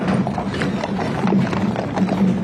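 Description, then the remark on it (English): Steady clip-clopping of horse hooves on pavement, a continuous rhythmic stream of hoofbeats from several horses pulling a horse-drawn caisson carrying former President Jimmy Carter's casket through the streets of Washington, D.C. to the Capitol, over a low rumbling background. “A horse-drawn caisson carrying former President Jimmy Carter's casket has just arrived at the Capitol after a trek through the streets of Washington, D.C.”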